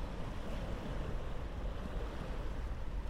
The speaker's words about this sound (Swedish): Vågorna rullar in mot stranden för att sakta vända tillbaka ut igen. Fram och tillbaka. Fram och tillbaka.